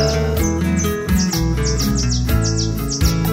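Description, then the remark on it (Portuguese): Small songbirds sing in the morning, chirping in quick, repeated high tweets, several each second, over a steady, fairly loud instrumental music backing with no voices. “De manhã sempre acordando, com os passarinhos cantando, contemplando a natureza.”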